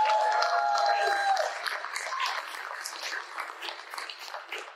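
An audience bursts into sustained applause, a dense patter of many hands clapping, with a few tonal cheers or whistles in the opening second before the clapping tapers slightly toward the end.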